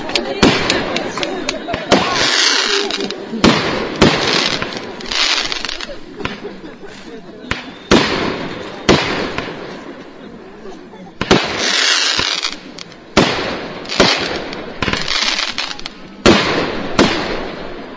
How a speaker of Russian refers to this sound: Спасибо за фейерверк, молодцы.